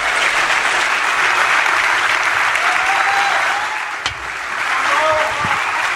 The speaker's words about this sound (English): And I want to hear a loud, raucous round of applause for your next... Your guy, Dom Giordano. Let's go. Get louder. Come on.